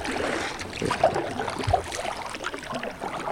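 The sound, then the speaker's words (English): A small boat moves over the calm, dark water of the Black River near Ivanhoe, North Carolina, among cypress tree roots, with soft lapping and a couple of gentle knocks against the hull, set against a steady outdoor ambience. “This is the Black River, near the town of Ivanhoe, North Carolina. It's an eerily calm, dark river, with the roots of thousands of tall cypress trees popping through the surface of the water like stalagmites in a cave.”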